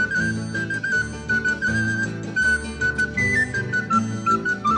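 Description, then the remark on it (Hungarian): A clear, flute-like whistled bird call repeats in short melodic phrases, riding steadily over a loud instrumental backing with bass and chords. No one speaks. “Milyen a hangja? Nyitni kék, olyan a ritmusa.”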